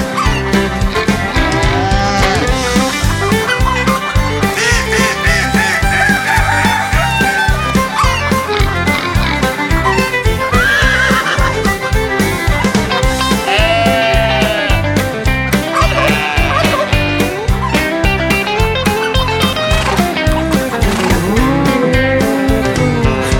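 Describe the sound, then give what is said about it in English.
A chorus of barnyard animal calls, clucking, bleating and neighing, layered over a loud, bouncy, steady rhythm that runs without pause from start to finish. “It's a neighing, braying, honking and a clucking, mooing, hooing, cock-a-doodle-dooing, barnyard hoedown, hoedown.”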